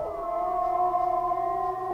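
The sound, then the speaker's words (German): A long, sustained wolf howl holds steady, tonal notes with layered voices blending, as if several animals howl together in a chorus, no talking. “Ich denke, dass ein Wolf ist.”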